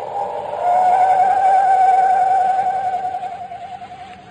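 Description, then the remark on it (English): A person imitates an owl's screech as a signal call: one long, tremulous, wavering call held for about four seconds, fairly loud, with nothing else around it. “No wonder the mournful screech of the owl had a familiar sound to Chuck.”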